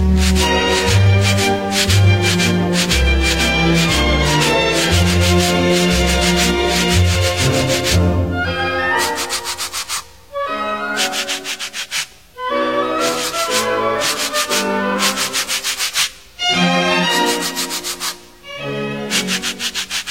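Sandpaper blocks rubbed in brisk rhythmic strokes serve as percussion within a lively orchestral tune, the scratchy swishes loud, with brief pauses between phrases and no talking.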